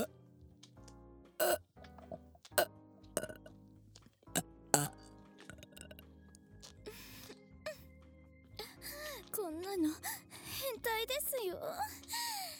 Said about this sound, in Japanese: 裸でオナニーしながら汚いゲップ。